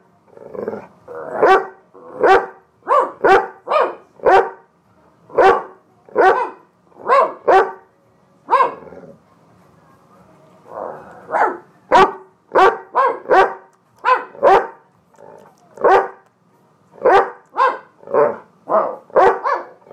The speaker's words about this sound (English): As you can hear, … and … think they're both dogs.